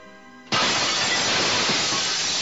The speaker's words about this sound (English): Astromech droids were breaking through the one-way glass.